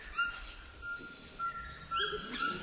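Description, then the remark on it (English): A Cuvier's toucan in the Amazon calls with a few yelping, bird-like cries that rise over a steady hum of insects, moderately loud, with no talking. “Oh, now we're hearing the call of a Cuvier's toucan.”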